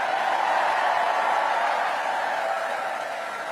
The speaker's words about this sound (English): Well, that was a lively campaign kickoff. A roaring crowd indeed.